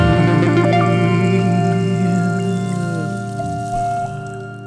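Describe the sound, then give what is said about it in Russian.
Water pours and bubbles steadily with a hollow, ringing resonance, fairly loud, easing off a little toward the end. No one speaks. “Потом из пузырящихся водных глубин появились тени отвратительных спрутов и чудовищных рыб.”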